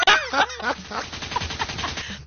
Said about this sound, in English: Hey, is that a gun?